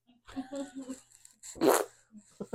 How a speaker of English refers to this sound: And then it's even got a fart button just to make it fart whenever.